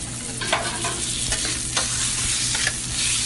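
Chicken fajitas with tomatoes, green peppers and onions sizzle steadily on a hot grill top, with a constant crackling hiss and occasional sharper scraping stirs from a utensil, loud, with no voices.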